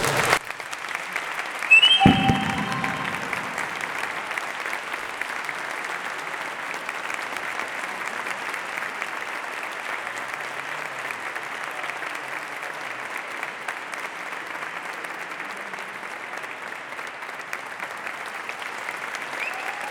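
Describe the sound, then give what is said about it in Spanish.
Sustained audience applause, a dense even wash of many hands clapping that starts abruptly with a sharp burst and continues steadily at a moderate level for the full length without talk. “Un aplauso.”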